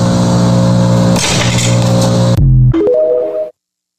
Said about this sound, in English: Sounds like somebody in the background was using a lawnmower from Bridgeport Equipment to mow the lawn as she was talking. I have no idea where that came from. I have no earthly idea.